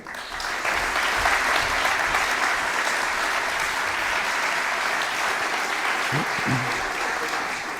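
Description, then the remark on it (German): A steady burst of audience applause as a speaker is introduced, dense and sustained clapping from many hands at even loudness before tapering slightly at the end, with a brief low voice near the close. “Ich hoffe, der Applaus ist gerechtfertigt.”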